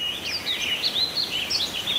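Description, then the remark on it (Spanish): A small bird sings a continuous, warbling song of quick high chirps and trills, clear, with no voices or other sounds around it. “Donde nosotros estamos, hay por tiempos que suena un pajarito con un canto muy bonito.”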